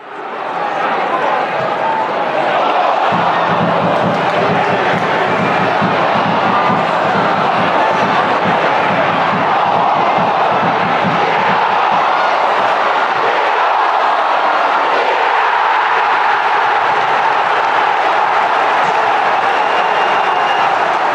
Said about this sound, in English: This is Mansfield Town's second goal against Bradford City at the weekend. We've heard crowd noises as players shoot before, but nothing quite like this. So crisp.